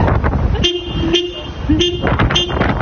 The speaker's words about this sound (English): A dog in Ireland, apparently annoyed by the weight, jumped in the driver's seat and just kept laying on the horn with some moral support, it seems, from another furry friend in the back. No word tonight on whether the owners came running.